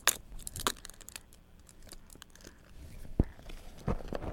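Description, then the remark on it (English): Irregular crinkling and tearing sounds with occasional sharp crunches, like a baby gnawing and mouthing on a paper or board book, scattered bursts over a quiet background. “Or you can chew on it instead.”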